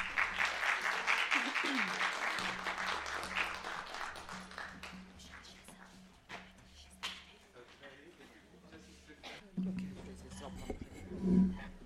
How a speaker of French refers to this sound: Non, peut-être, même si on n'a pas vu le générique, peut-être applaudir à nouveau les trois réalisateurs de ce beau film.